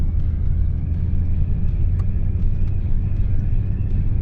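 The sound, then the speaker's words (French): A car engine idles steadily with a deep, continuous low rumble, constant throughout, with a few faint clicks and ticks on top. “on en a pour 30 secondes et après la voiture est morte.”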